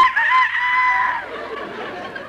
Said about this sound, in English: No, no, that's the rooster. It's morning.